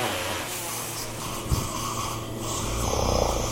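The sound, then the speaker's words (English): A patient under anesthesia on the operating table during knee replacement surgery snores steadily with a low, rumbling rasp, over a constant mechanical hum, with one brief sharp knock partway through. “The patient snores”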